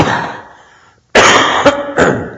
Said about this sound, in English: Is that loud when I cough? I cover this.